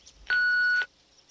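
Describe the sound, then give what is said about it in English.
A single steady electronic beep, clear and loud, holding one pure tone for about half a second before cutting off, like an answering machine signaling to leave a message. “Please start talking at the sound of the beep.”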